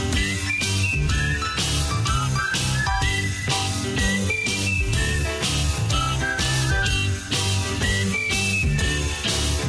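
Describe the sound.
A whistled melody rides over a steady, full band arrangement with a regular driving beat, the bright tune weaving through the music at a constant, fairly loud level.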